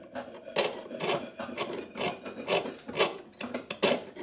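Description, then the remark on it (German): Metal being filed by hand in a small goldsmith's workshop during a children's goldsmithing course: a steady series of about eight rasping strokes, evenly paced roughly twice a second, moderately loud, with no talking. “Die kleine Werkstatt der Goldschmiedin Annette Kurz ist vollgestopft mit Feilen, Sägen, Drähten, Metallstücken, Fläschchen und kleinen Kisten.”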